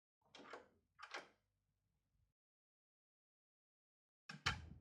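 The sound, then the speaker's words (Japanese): A hidden door panel in what looks like an ordinary wall slides sideways with two quick scraping rushes over a low rumble, then goes quiet before a louder bang-like slide near the end. No voices. “でも、こうやって横にスライドさせると、隠し扉が出てまいります。”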